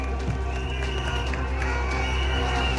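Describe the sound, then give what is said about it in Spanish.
A large crowd claps and cheers steadily throughout, a dense, continuous wash of applause with voices mixed in, sounding like an outdoor rally. The applause is for a speech by the CUT, the Central Unitaria de Trabajadores y Trabajadoras. “Este es el aplauso al discurso de la CUT, la Central Unitaria de Trabajadores y Trabajadoras.”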